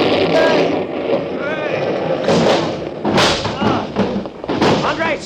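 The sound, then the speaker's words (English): A deafening explosion set off by a jerked cord gives way to a sustained rumble as a whole wall rises and topples in, with crashing masonry, heavy thuds from tumbling debris and voices crying out amid the din. “There was a deafening explosion, and the whole wall rose up and toppled in upon them.”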